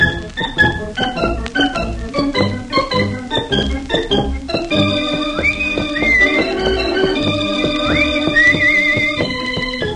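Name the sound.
theme music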